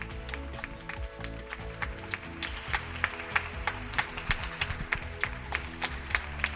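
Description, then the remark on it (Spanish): Steady clapping from many people on balconies in the Guinardó neighbourhood of Barcelona: sharp claps in an irregular rhythm over a low, busy background of crowd noise, moderately loud with no one speaking. “Escuchamos los aplausos.”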